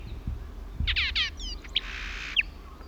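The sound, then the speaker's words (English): A Horsefall blackbird, singing at the top of a pine tree 100 feet up on Isla Victoria, recorded 13 December 1977, sings a short phrase of quick, high descending whistled sweeps, then a sustained buzzy trill ending in two sharp bright notes, over a low steady rumble. “Horsefall Blackbird, Isla Victoria, 13th December 77.”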